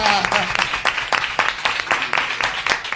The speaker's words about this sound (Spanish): ¡La Galera! ¡Fuerte el aplauso! ¡Venga!